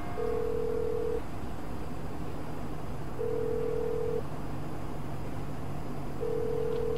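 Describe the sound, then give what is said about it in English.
A phone line ringing while calling a man's United States phone, which then goes to an answering machine: three steady, even tones about a second long, spaced a few seconds apart, sounding through a constant background hiss with no one speaking. “As you can see, this is his phone.”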